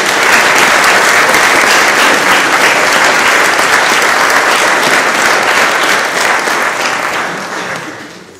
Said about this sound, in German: Ich finde das ganz toll und sage nochmal vielen Dank und bitte um einen Applaus für das Team.